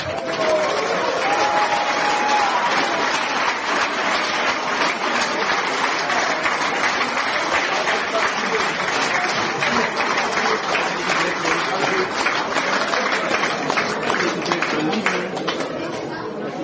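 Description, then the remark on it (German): A crowd applauds steadily for the whole stretch for the 15th-place team at a ranking announcement, dense continuous clapping with a murmur of voices and occasional cheers mixed in, fairly loud throughout. “Euer Applaus.”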